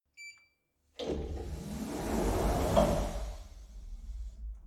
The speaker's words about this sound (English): He's downstairs parking a big truck he stole from some Surge goons.